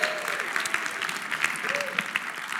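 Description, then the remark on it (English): A crowd claps steadily and densely throughout, a loud wash of hands with scattered sharper claps, while a few voices cheer and whoop over the top, making noise for the Lord. “Like, let's make some noise for the King one time. Let's make some noise for the Lord.”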